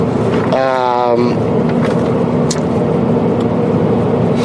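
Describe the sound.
Steady low rumble of a car with two people inside moving along a road, heard from inside the cabin, loud and constant throughout, with a brief voice-like sound near the start.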